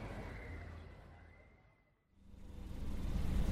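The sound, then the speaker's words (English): Steady engine and road rumble from a moving car, with a thin whine on top, fading to near silence midway before the rumble swells back, louder. “Okay, let's take the car. It's faster than my stupid truck.”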